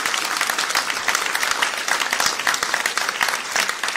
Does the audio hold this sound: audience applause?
yes